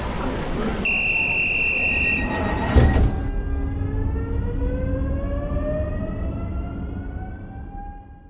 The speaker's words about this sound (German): Achtung, Zug fährt ab. Bitte alle einsteigen.